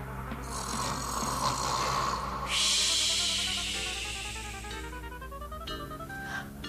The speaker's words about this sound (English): What is that noise? It was Mr. Mustafa. He was snoring so loudly, all the precious dreams got jumbled up.